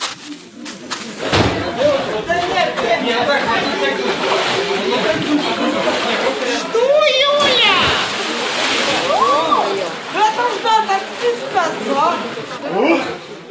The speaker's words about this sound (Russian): По всему миру верующие в этот день окунаются в проруби. Считается, что такое иногда экстремальное купание очищает душу и смывает грехи.